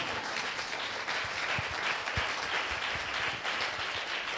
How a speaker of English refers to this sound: Oh, that's a good point to clap.